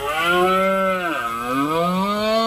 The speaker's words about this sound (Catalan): És la brama del cérvol. Aquest cap de setmana s'obren els punts d'observació per gaudir d'aquest bram que dona la benvinguda a la tardor.